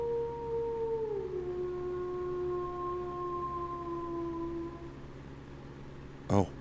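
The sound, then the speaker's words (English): A single long, drawn-out wolf howl that dips slightly in pitch early on, then holds a steady mournful tone over a low background rumble before fading; a brief sharp thump follows. “Oh, that's a wolf.”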